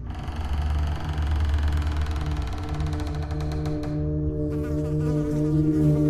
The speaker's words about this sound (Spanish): Cuando lograron abrir la puerta del despacho, salieron moscas y también un espantoso hedor.